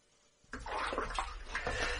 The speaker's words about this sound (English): The simple pleasures of a long soak in hot water when the body is cold and the spirit low.